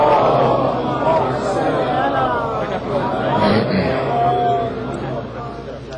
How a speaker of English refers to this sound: But before I do that, there's a crowd at the door here. Can I please ask you to please move forward? And a little bit to my left here as well, please, if you don't mind.